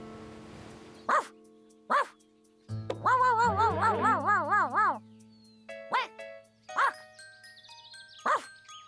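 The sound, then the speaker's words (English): A large dog barks in loud, spaced single woofs, with a wavering, howl-like stretch in the middle and a low droning tone underneath. “Pipe down, you king-size canine.”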